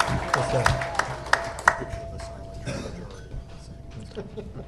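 Scattered applause from a small audience at an evening event at Hopcat, a few sharp claps standing out over a low murmur of chatter, thinning out after a couple of seconds while a faint steady tone hums underneath.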